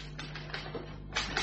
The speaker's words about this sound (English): That's odd, sir. Mr. Sloan and his typewriter.